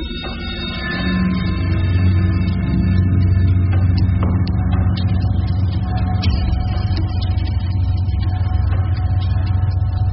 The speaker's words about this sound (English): I waited with her back to the sea as I drove the car into the garage of an abandoned nightclub 50 yards from the road.